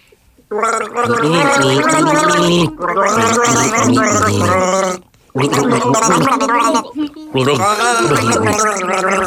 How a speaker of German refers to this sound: Ja, das war unser Gurgeln für Wasser.